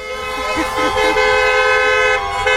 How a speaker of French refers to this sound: Et un petit coup de klaxon.